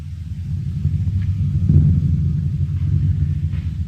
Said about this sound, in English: A thunder drum being struck continuously.